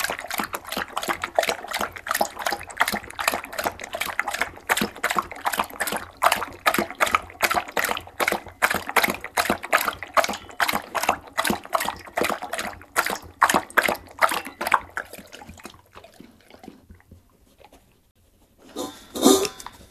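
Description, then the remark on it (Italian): A two-year-old honey-coloured Labrador named Falco laps water from a bowl before going out in hot weather, with fast, steady wet slurps for about fifteen seconds, then a pause and a short final burst of splashing. “Prima di uscire bevi un mezzo litro d'acqua, fuori è un caldo bestia.”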